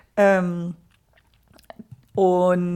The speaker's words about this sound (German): Entschuldigung, wenn es hier klappert, meine Katzen schlagen sich gerade.